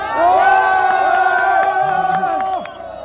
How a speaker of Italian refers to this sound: Queste sono le grida dei soccorritori che a mani nude provano a salvare i minatori rimasti intrappolati nella Repubblica Democratica del Congo.